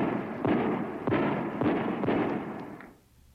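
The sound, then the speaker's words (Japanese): Four booming fireworks bursts, signalling the 9 a.m. January 2 opening of the Miyako City specialty shopping arcade, go off in a steady rhythm about half a second apart, each a broad blast with a rumbling tail, followed by a couple of faint pops before fading out. “ドーンと花火を合図に宮古シティ専門店街は1月2日午前9時オープン。”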